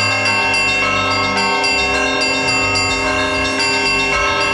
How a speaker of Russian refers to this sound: После многих десятилетий молчания колокольня русского патриаршего подворья в баре наконец-то обрела божественный глаз. Красивый, лаконичный, содержательный, каким и должен быть русский колокольный звон во всем своем величии и своеобразии.